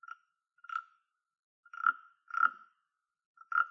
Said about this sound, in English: Something that's a little bit more traditional, you guys might have seen one of these before in music class. This is called a rasp.